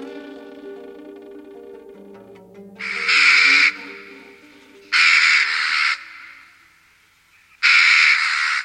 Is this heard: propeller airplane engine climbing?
no